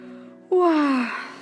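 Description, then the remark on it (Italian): A voice imitates a tortoise's yawn: one loud, drawn-out breathy moan that slides downward in pitch for about a second before trailing off into a soft exhale. “Tornò a sbadigliare.”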